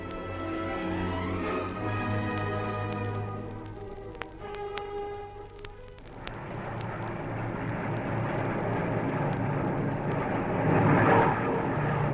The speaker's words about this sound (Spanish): Aviones de la Fuerza Aérea vuelan sobre Miraflores, disparando sus ametralladoras en piruetas increíbles. Del Palacio contestan con fuego antiaéreo.